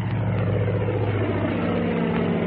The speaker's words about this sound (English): Slim stepped back from the runway as the plane took off. He watched the kid lift the tail a little too fast, saw him stall the ship off just before it was ready to fly.